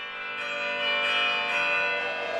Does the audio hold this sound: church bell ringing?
yes